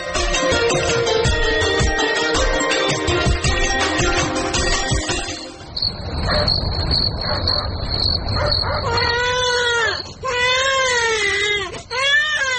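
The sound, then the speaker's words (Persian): After a burst of loud music, a baby who has been sick for several days cries in several rising and falling wails, loud, over a busy background. “او مردکن چند روز میشه که بچه مریض است، سبا پیش دکتر ببرش.”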